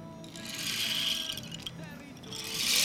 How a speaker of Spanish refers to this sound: ¿Sabes qué es? Es ese instrumento que hicimos en Profe en tu casa, que metíamos unas pepitas dentro, una guasa, se llamara tanto. Ajá, un palo de agua, eso es, un palo de agua. Exacto.